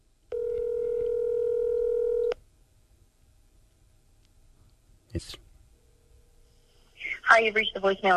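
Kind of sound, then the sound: signal or alarm, outgoing phone call ringing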